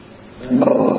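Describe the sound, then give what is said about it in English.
A short, throaty burp swells up about halfway through and rumbles for roughly half a second, moderately loud, with no talking around it. “I was trying to think, what is there about all of us that brings us together? And you know what it is? What? Burping.”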